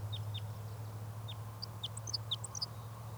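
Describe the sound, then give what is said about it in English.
A male crossbill, thought to be type 5, perched at the top of a net tree, sings short, high song phrases: a few sharp descending chips, then a quicker cluster of bright, varied notes, all over a steady low hum with no voices. “This bird is giving a few song phrases.”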